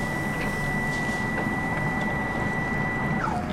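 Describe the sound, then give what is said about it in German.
A printer whirs steadily while printing, a continuous mechanical hum with a high whine that drops in pitch near the end, with no voices over it. “Der Drucker schnurrt.”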